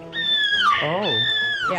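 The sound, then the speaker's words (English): A person imitates a seagull with two shrill, nasal, high-pitched cries, separated by a brief lower swooping vocal sound. The voice is fairly loud. “No, again, a seagull sounds like this.”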